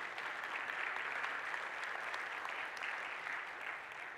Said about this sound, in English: If you're going to clap, either clap right or don't do it at all. So let's clap again.